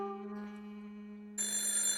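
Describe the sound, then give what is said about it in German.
A telephone bell rings in a hallway in the morning with a steady harmonic tone, then a brighter, more metallic burst of ringing cuts in partway through, clear with no voices. “Hunkeler hörte das Telefon im Gang klingeln.”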